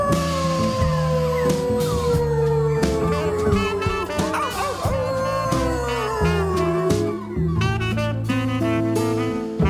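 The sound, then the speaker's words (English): A voice imitates a wolf, letting out long, wavering howls over loud, driving music with a steady beat and bass line, the howls sliding slowly downward in pitch. “I heard him call me a big bad wolf. Howl with me now.”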